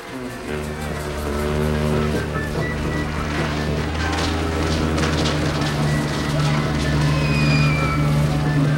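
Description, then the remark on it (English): A car's engine drones steadily as it pulls into a Mexican village full of revelers, a low rumbling hum that holds for the whole stretch and grows slightly louder midway, with faint busy background noise around it. “A car pulls into the Mexican village full of revelers.”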